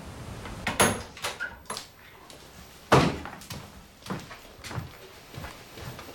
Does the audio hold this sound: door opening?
yes